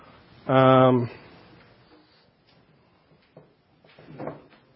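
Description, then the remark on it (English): Chairs are turned around by a group: one scrapes loudly across the floor with a short, squealing drag, then fainter bumps and shuffles follow as furniture is shifted, with soft voices murmuring in the background. “You guys can kind of turn the chairs around if you want.”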